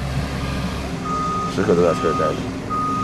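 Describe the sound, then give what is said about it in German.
At the construction site of the Xiaotangshan hospital in northern Beijing, China, workers haul away rubble: a truck's low engine rumble fills the site while a steady high reversing beep sounds, pausing briefly, and a voice talks over the noise for a moment. “Er sitzt mit Schutzmaske in einem verbeulten, grauen Lieferwagen, während seine Leute den Bauschutt abtransportieren.”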